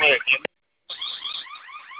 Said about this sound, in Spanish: Ah, me comunico para ver si me pueden ayudar a desactivar mi alarma de tienda. Me aparece el teclado bloqueado, pero está Sony FM. El problema es que con los vecinos luego llaman a la patrulla.